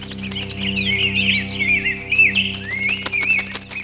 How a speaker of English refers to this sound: But then, the birds came back.